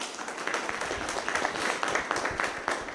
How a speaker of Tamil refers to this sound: கரங்களை தட்டி ஆண்டவரை மகிமைப்படுத்துங்க. இந்த ஜெர்மனி தேசத்திலேயே கைதட்டுறதுக்கு உங்களை தான் கூப்பிட வேண்டியிருக்கும் போல இருக்கு. எவ்வளவு அழகா கைதட்டுறாங்கப்பா, God bless you. கொஞ்சம் உற்சாகமா தான் தட்டுறது கைய.